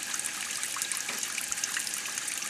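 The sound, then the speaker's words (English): A steady, hissing rush of highly purified water, desalinated from pumped brackish groundwater, pouring continuously from a desalination plant outlet, fairly loud, with no voices and no break in the flow. “That's highly purified water with less salt in it than the mountain snowmelt that feeds neighboring San Francisco's water system.”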